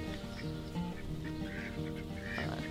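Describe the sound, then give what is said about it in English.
A flock of ducks quacks continuously on a rainy day, overlapping calls forming a busy, noisy chorus with no pauses, and no talking. “All my ducks are back there quacking over something.”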